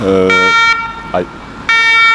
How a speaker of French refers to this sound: Ah, les pompiers qui arrivent. On va laisser passer.